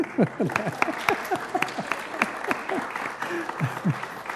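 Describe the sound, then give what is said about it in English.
An audience at a campus event breaks into applause for the organizing committee members, a steady patter of many hands clapping at moderate volume, with scattered voices whooping and cheering over it. “our committee members, but I did not hear any applause.”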